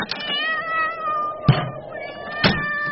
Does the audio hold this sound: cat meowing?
yes